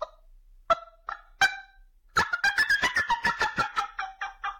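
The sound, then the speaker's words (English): A turkey hen fly-down cackle made on a game call: a few spaced, sharp clucks, then a fast, excited run of loud, raspy cackling notes that tapers off, with no talking. “So if he's already flown down and maybe he expects me to be up in the tree, or if there's another hen somewhere out there, I'm going to do like a fly down cackle, and that's just going to be a...”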